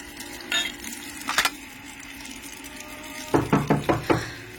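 Knocking at a front door: a couple of isolated taps, then a quick, even run of five firm knocks near the end, over a steady faint hiss with no voices.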